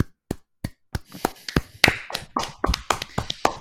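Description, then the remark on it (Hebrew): A few people in a studio clap their hands, starting with scattered single claps and quickly building into denser, uneven applause from a small group. “ואני רוצה רגע מחיאות כפיים, כולם תעשו מחיאות כפיים.”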